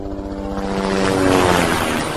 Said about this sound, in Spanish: Dentro de la ciudad sobrevolaba una avioneta, que parece era el contacto, ¿no?